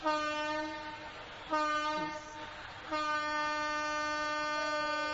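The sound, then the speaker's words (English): A passing train blares its horn in three long, sustained blasts that run almost back to back, loud, with no voices. “Today the trains have joined our kirtan.”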